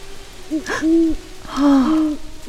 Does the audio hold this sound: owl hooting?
yes